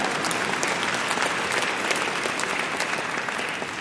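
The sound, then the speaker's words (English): An audience claps steadily, a dense wash of many hands sustained at an even, fairly loud level for a few seconds, fading slightly toward the end. “God, yeah, you can even clap if you want here.”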